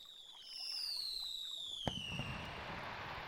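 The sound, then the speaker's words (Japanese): A single firework whistles as it climbs into the sky, then bursts with one sharp bang and fades into a soft, sparkling crackle, with no voices. “この空に向けてこう手を振ると、花火です。この雰囲気にはぴったりじゃないですか。”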